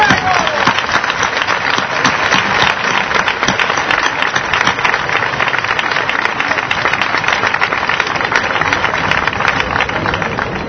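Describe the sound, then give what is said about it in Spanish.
Sustained, loud applause from a large crowd, dedicated to all those who are absent, a dense steady wash of many hands clapping that holds evenly for about eleven seconds without pause. “Dadle un aplauso a todos los ausentes.”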